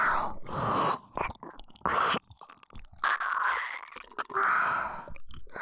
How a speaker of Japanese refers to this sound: こうやって耳たぶあむあむされるのどう？